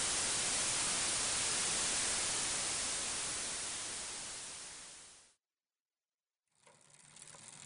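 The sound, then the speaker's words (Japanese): Loud, dense TV static hiss fills the first five seconds, fading out into a brief silence before a quieter, grainier noise returns near the end. “砂嵐に合わせて口笛を吹く。笑顔。きっとたどり着ける。砂嵐。”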